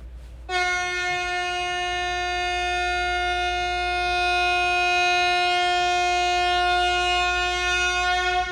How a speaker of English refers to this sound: Happy birthday, everybody. That was my big honk to all the birthday people.